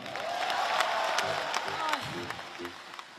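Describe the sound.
A large audience applauds steadily for a duet by a male and a female singer, a dense wash of clapping with scattered louder claps, some cheering, and indistinct voices rising through the crowd noise.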